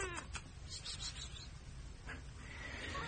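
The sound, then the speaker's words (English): A female cat meows faintly against a steady background hiss, with a short cry at the start and a longer, rising meow near the end. “Hey, kitty.”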